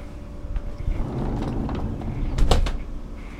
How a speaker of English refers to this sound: Pulling back our little blinds here on the door, opening door. Going out. There you go.